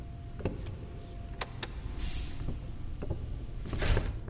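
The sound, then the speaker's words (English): A door is shut: a few quiet clicks and knocks, a brief hissing scrape as it swings or slides, then a firmer bump as it closes against a low rumbling background. “I'll shut the door.”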